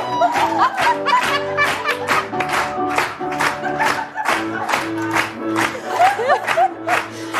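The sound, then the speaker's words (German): A short, upbeat new intro jingle plays: steady sustained tones with a regular beat of percussive hits and bright cheering or shout-like accents layered over the music throughout. “Ja, wir haben einen neuen Jingle. Ich liebe ihn. Gefällt er euch? Ja! Ah, da kommt er nochmal.”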